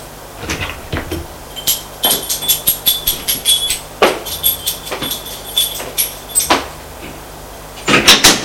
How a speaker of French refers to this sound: Arrivée à l'étage, elle va ouvrir la porte de son appartement.